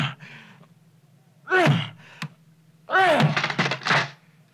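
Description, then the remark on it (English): Loud pounding on the closed door to a church belfry in a few heavy bursts, one sharp thump standing out between them, with straining grunts and gasps mixed in. “He closed the door after him. Is he running away from us? He'd hardly run up there to get away from us. There's no other way out. Let me at that door.”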